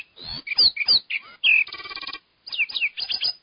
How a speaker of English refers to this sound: First of all, this is a lark sparrow at normal speed.